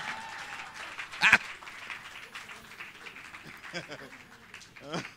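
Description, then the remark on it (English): An audience applauds the band with steady, dense clapping that runs the whole time, punctuated by a sharp shout and scattered high whoops and voices rising over the clapping. “Thank you, band. Please clap for our band, please.”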